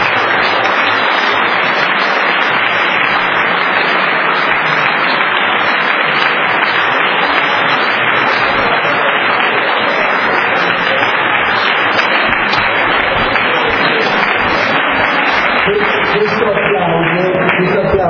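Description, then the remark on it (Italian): An audience applauds a deacon in a sustained, dense wash of clapping that stays steady and loud throughout, with faint voices or tones rising near the end as the applause continues. “però io vi chiedo che facciamo un applauso per il diacono”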